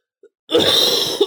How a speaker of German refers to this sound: Ein fröhliches Husten. Ein fröhlicher Huster.